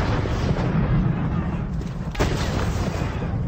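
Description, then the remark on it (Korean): Cannon fire and explosions as American troops under George Washington shell and blow up buildings at Trenton where Hessian mercenaries had fled; a dense, continuous rumble, loud and low, with one sharper blast cutting through about two seconds in. “아메리카군은 이를 놓치지 않고 건물들을 폭파하기 시작했습니다.”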